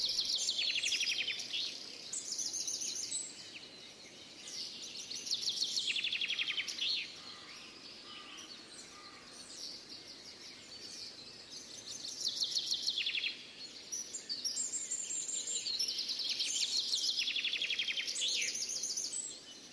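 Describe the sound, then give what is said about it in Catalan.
Several birds sing and chirp continuously in a quiet mountain setting, with bright, overlapping high-pitched phrases coming in waves over a soft natural background hush; no one speaks. “Hem fet aquest petit silenci. Nosaltres, els ocells, no, perquè la muntanya és natura.”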